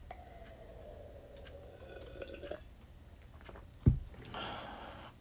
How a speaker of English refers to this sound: Let me get another sip of water.